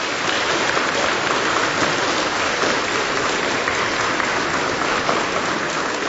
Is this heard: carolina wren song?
no